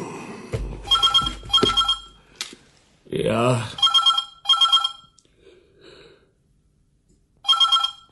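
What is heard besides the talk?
telephone ringing loudly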